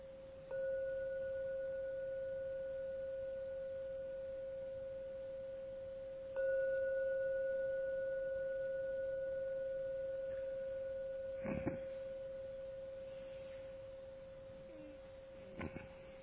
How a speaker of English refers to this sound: The gongs 3 times to end the meditation. Please listen to every sound of the gong. Don't rush out of meditation. Let the ringing of the gong lead you out from the meditation back into the world. As you open your eyes on the 3rd ringing of the gong.